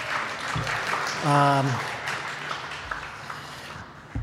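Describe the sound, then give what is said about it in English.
An audience at a meeting applauds steadily for about four seconds to thank people for their work on an effort, a dense wash of clapping with a brief whoop or cheer rising above it partway through. “So thank you guys for your efforts there, and give them a round of applause too, because I think they deserve that.”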